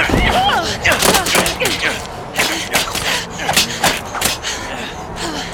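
A rapid, uneven barrage of sharp thuds and cracks, like a volley of arrows striking, with strained gasps and vocal cries mixed in over a loud, dense rush.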